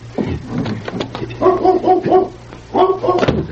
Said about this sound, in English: That's a dog. Back here somewhere.